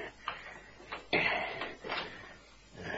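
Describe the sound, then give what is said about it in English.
A few sharp metallic clicks from keys working a lock, then a heavy security door swings open with a louder clunk and a scraping rush, without any voices. “Here's the first security door. Give me those keys.”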